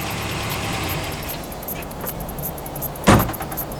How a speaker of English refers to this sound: Is that truck for us? It's heading this way. Perhaps we should have kept moving.